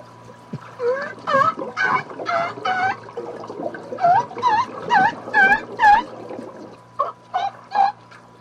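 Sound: orca imitating seal calls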